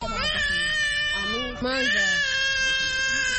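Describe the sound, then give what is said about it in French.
A hungry baby, held in its mother's arms after arriving by pirogue from the Democratic Republic of Congo, cries loudly on the beach at Rumonge, about 100 km south of Bujumbura, Burundi: one long, wavering wail that breaks for an instant halfway through, then carries on just as strongly. “De la plage de Rumonge, à une centaine de kilomètres au sud de Bujumbura, ce bébé dans les bras de sa maman vient d'accoster d'une pirogue qui vient de la République démocratique voisine.”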